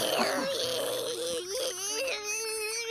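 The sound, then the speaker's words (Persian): A young woman cries loudly and continuously, her high, wavering wails rising and falling in pitch with brief catches of breath between them, with no talking. “وایسا داره گریه میکنه. میشه با اشک تو چشمات به امزول نزنی؟”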